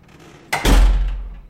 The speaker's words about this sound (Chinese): 喂，你干嘛把门关了？喂，没听见吗？我在跟你说话呢。干嘛关门？你是在锁门吗？你竟然把门反锁了，有点不对劲啊！